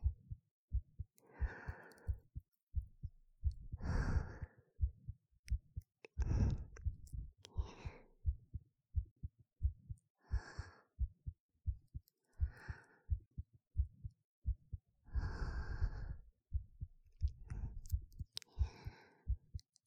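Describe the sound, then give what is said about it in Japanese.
A mother's steady heartbeat thumps muffled, as heard with a face pressed to her chest during a hug, its low double beats repeating evenly alongside soft breathy swells. “ママの心臓の音、聞こえる？”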